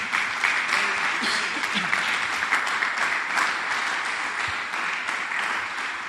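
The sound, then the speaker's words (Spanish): An audience at a church service applauds steadily in response to a call to applaud the living King, a dense wash of many hands clapping at constant loudness for several seconds, with faint voices mixed into the crowd. “Denle un aplauso al Rey que vive.”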